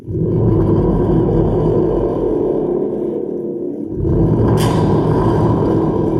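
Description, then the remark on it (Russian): A loud, sustained low rumble of thunder rolls on, eases briefly, then swells again with a sharper crackling burst before continuing to growl to the end. “Загрохотал гром.”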